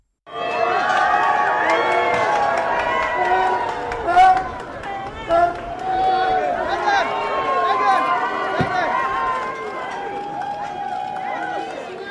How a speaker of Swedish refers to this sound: Och det är ju spännande det här med liksom Harry och Meghan, och när de gör entré till olika saker. Det är många som jublar, men det är också några som buar. Och vi lyssnar på hur det lät då när de gjorde entré till Invictus Games.